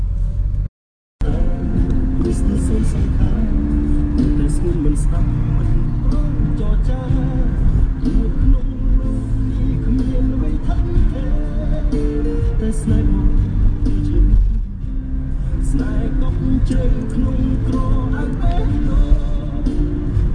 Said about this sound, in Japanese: 今シェムリアップに向かうタクシーの車内です、こんな感じで、これはクメール語なんですかね、なんかそんな感じのミュージックで、で最初は僕一人かと思ったんですけど、案の定同じ方面に行く人をどんどんピックアップしていくっていう感じですね。で、車はトヨタで、普通の5人乗りの乗用車なんですけど